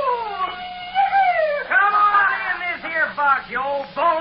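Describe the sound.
A man's voice mimics a coyote howl, sliding up and down in long wavering cries followed by a string of shorter yips and whoops, loud, with a faint steady hum beneath.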